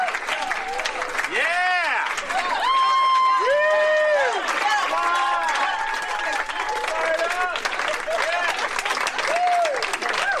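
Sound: audience applause and cheering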